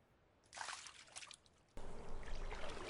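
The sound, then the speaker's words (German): Hands swish softly through lake water in a few gentle, splashy strokes, then the watery sound turns into a steadier, louder wash of rippling and sloshing, with no voices. “Lasse meine Hände durch das Wasser glatten.”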